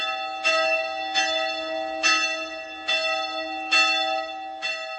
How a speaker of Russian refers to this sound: Вряд ли найдется человек, которого оставит равнодушным колокольный звон. А в чем тайна колокольного звона? И, собственно говоря, из чего отливают колокола?